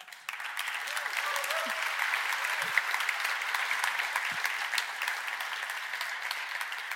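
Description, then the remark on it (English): A steady burst of audience applause, many hands clapping in a dense, even wash that holds at a constant level for about seven seconds with no talking over it. “I just want to make it clear this is the first time you applaud.”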